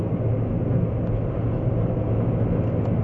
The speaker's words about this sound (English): Hold on, I'm in pretty thick traffic. A bunch of people in the left lane think it's for them to go slow in.